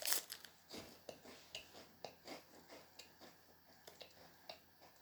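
Close-up munching on a chocolate bar: steady, rhythmic crunchy chews, about two per second, quiet but crisp, with no one talking.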